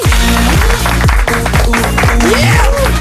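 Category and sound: crowd, studio audience applause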